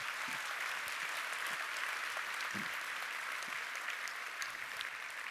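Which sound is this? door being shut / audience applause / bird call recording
audience applause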